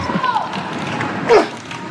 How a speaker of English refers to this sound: Bless you. Or at his way. So I think the listeners may have heard that. So. Even though I tried to cover it with my elbow. Like I've been told.